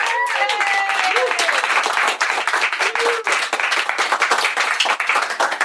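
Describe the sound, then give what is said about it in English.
Dense, steady applause from a crowd at the end of a War Rocket Ajax interview, many hands clapping continuously at a fairly loud level, with a few brief voices and a short whoop rising above the clapping. “Let's make this the first ever War Rocket Ajax interview that ends with applause.”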